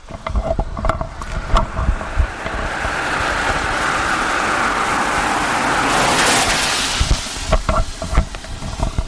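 A car with very bright LED lights approaches and sweeps past, a broad rushing roar swelling to a peak before fading, with scattered clicks and knocks around it and no one talking.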